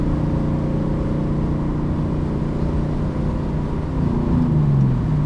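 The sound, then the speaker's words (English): A car engine drones steadily at about 3,500 RPM in fourth gear after shifting up at 5,000, a continuous hum with a faint pitch rise near the end, and no one talking. “That was 5,000 before I shifted. 3,500 in fourth gear.”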